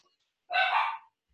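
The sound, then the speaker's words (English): A single dog bark, a short rough yelp of about half a second, fairly quiet, with silence before and after and no talking. “But I'm going to go take a break and figure out why my dogs are barking.”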